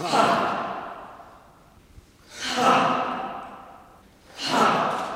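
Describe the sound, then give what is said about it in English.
Three long, deep breaths whoosh in and out at a slow, steady pace, each swelling and fading like a heavy sigh, as about 30 people sitting on yoga mats on a terracotta floor breathe together in a hushed church sanctuary under stained glass on a Sunday evening. “On this Sunday evening, it's breathing under stained glass.”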